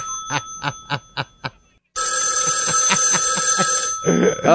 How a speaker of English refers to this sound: Like that sounds like the payphone from Andy Griffith's sheriff's office.